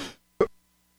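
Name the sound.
coughing and throat clearing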